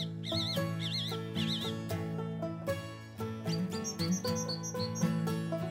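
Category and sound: bird, song thrush singing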